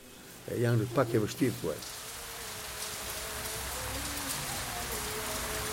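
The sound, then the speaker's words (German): A short burst of a voice opens, then steady, heavy raindrops patter and drip from roofs covered with grey stone slabs, a continuous even hiss of water that holds at moderate loudness to the end. “Während schon wieder schwere Tropfen von den mit grauen Felsplatten gedeckten Dächern plattern”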